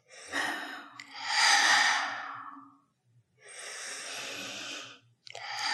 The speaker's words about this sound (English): I just took deep breaths, keep your shoulders down, and relax your body, and you keep your deep breathing, and like this.